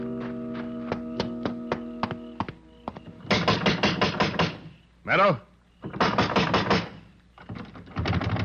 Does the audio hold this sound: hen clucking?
no